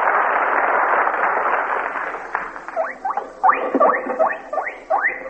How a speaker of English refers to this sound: Oh, that's the squeal of a pig